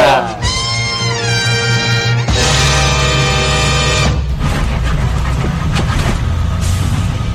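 Bus station ambience at a bus station in Madrid, Spain: a loud bus engine whines and rises in pitch, holds a steady droning tone, then gives way to a broad rumble of idling engines and background bustle.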